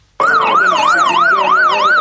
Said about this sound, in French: Il est 17h, la sirène retentit au loin. Quelques secondes plus tard, le cortège présidentiel fait son apparition au Carrefour Mvan.